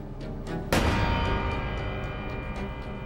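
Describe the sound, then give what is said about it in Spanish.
A single loud gunshot, fired by a man killing his wife as she sleeps in an armchair, cracks out suddenly and rings into a long, echoing decay, with faint rhythmic ticking in the background before and after the blast. “Luego mató a su esposa con un solo disparo y armó una escena para que pareciera un suicidio.”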